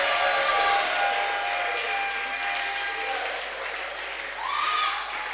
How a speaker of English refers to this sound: Can you shout and clap to God's glory?